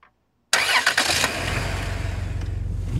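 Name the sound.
car engine starting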